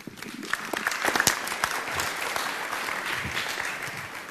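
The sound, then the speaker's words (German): Steady morning applause from an audience at the IFA trade fair in Berlin, welcoming the head of Messe Berlin, dense overlapping claps holding at a constant, moderately loud level for several seconds without a pause. “Und ich glaube, wenn Sie ihn jetzt, den Herrn Kamp, mit einem kleinen Applaus begrüßen, freut er sich an diesem wunderschönen Morgen.”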